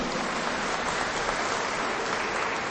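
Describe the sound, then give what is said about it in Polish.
A church audience applauds its schola (choir), clapping together in a steady, dense wash of applause that holds at an even level for a few seconds, with no voices standing out above it. “Brawa dla naszej scholi, gorące brawa.”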